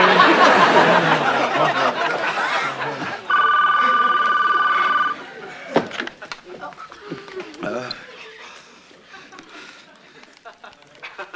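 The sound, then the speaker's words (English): A telephone rings once, a steady electronic trill lasting under two seconds, loud, with people chattering and laughing around it before and after. “Well, get the phone, man.”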